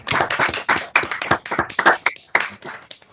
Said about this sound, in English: So we're very excited for our employee of the quarter. And I'm hoping she's on, but again, it's always a little tricky on here, but let's give her a round of applause, please.